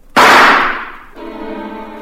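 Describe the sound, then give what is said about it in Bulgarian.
A single loud gunshot, fired straight at a grizzly bear's eyes, cracks out and rings away, and then a sustained, harmonically rich droning tone takes over and holds steady to the end. No one speaks. “Стреляй право в очите.”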